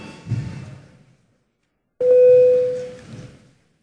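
A voting bell in the Latvian parliament, called for before a vote on a proposal, sounds as one steady, mid-pitched electronic tone lasting about a second, starting abruptly and trailing into low murmuring background noise.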